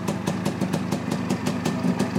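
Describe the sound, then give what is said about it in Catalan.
A Montesa motorcycle engine idles, a steady, loud two-stroke-like putter with regular firing pulses a few times per second, with no talking over it. “Sona a Montesa.”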